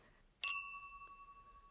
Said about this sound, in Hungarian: Jól van. Kocinthatunk egyet.